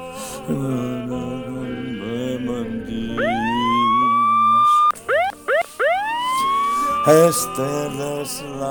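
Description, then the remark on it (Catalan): A police siren wails with rising sweeps, then a rapid series of short, loud yelps, over a steady musical background with no talking. “Què has fet, que ve la policia?”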